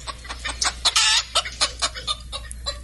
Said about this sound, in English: And here's, we've got five fussy hens here.